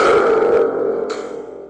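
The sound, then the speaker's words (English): A thunder tube rumbles loudly, a dense, boomy roar with a metallic, springy resonance that holds steady for under two seconds, slowly fading slightly, with no one speaking. “Secondly, can we hear some Thunder Tube”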